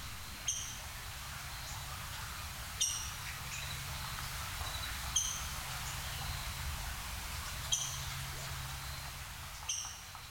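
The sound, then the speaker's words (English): A Northern Flicker high in the trees, migrating through Devil's Den State Park in fall, gives sharp, high keek calls, five of them spaced a couple of seconds apart, over a steady low rumble of background noise. “Here's a recording this fall of a bird high in the trees as it was migrating through Devil's Den State Park.”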